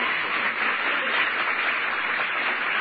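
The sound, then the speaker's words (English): An audience gives the Lord a hand clap offering: sustained, dense applause, a steady wash of many overlapping hand claps at an even, fairly loud level with no voices standing out. “Can you give the Lord a hand clap offering?”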